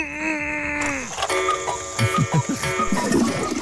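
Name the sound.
pendulum clock ticking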